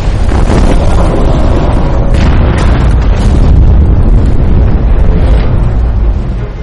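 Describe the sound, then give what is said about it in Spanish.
A loud, sustained explosive roar with heavy low rumble fills the whole clip, rolling and surging without pause, as a torpedo explodes against a ship, with churning debris and turbulence. “Poco después, el torpedo de Henke da en el blanco.”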